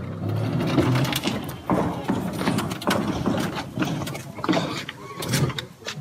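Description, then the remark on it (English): A steady electric whirring as a two-seater electric car's side panels slide down and under the car after the driver pushes a button, narrowing it from 1.5 to 1 metre to fit a tight parking space, with repeated clicks and clunks for several seconds, loud. “to the right and left, the car's side panels slide down and under the car out of sight.”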